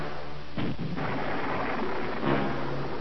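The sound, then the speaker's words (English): A series of deep, rumbling explosions at a construction dock rolls in one after another, approaching in sequence: heavy low booms layered over a continuous roar, sounding large, with no voices present. “The construction dock's roiling explosions approaching in sequence shook the Hound's frame, the metal of its hull grating against the rubble-strewn area on which it had crashed.”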